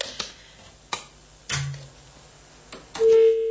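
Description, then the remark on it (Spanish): A telephone being dialed, which turns out not to work: a few sharp clicks spaced out, a brief low hum, then a steady tone that holds to the end. Clear, with no voices. “A ver qué me cuenta el teléfono.”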